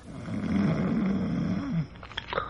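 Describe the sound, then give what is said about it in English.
A loud, rumbling human snore from a big, heavily muscled aged man in a hospital bed behind a curtain drags on for over a second with a rough, buzzing rasp, then trails off into quieter breathy rustling. No one speaks. “From behind the curtain and the other bed in the room, from the big, heavily muscled aged man in it, comes a rhythmic and ear-shattering snore.”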